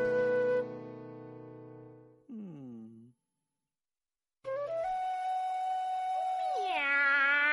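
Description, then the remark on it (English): A voice imitates a cat, with a drawn-out meow, a shorter falling mew, a brief pause, then a long rising and wavering meow, all loud with no other talk. “No, George. Cats go meow.”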